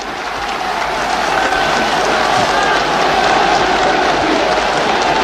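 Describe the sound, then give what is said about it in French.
A large crowd in Paris cheers and applauds General de Gaulle as he climbs the tribune with his arms raised in a V, a steady, dense roar of clapping and voices, loud and sustained for the whole stretch without any clear break. “Il accède maintenant, les bras levés en V, selon son geste familier, devant la foule qui acclame.”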